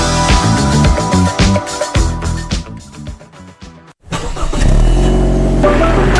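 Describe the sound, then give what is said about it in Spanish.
A car engine at the Salfarrent dealership cranks and turns over after a brief pause, settling into a loud rumble. Upbeat music plays before the pause, and no one speaks. “En Salfarrent hay un auto preparándose para ir a veranear contigo.”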